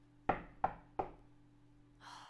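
Three sharp knocks on a wooden door late at night, evenly spaced, followed by a short breathy exhale or sigh against a faint steady hum.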